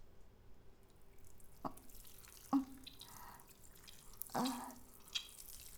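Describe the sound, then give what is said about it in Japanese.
Water drips and splashes in a sparse, irregular rhythm, about four distinct drops falling over a faint wet background hiss, with no voices; the trickling water simulates urination. “我慢してたおしっこ、思う存分お漏らししてください。”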